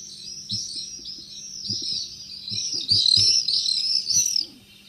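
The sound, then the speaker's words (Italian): Common swifts screeching as they fly among buildings in a harbour area: shrill, overlapping screams that carry on without pause, growing denser and louder toward the end, over a faint low rumble of background noise. “Ma insieme alle rondini arrivano anche i rondoni, più grossi e dal colore tutto marrone.”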